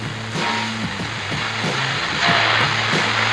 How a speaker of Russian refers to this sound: Чем моя машина отличается от многих? 120 км в час в обычной машине. И в моей. Звук в обычной машине.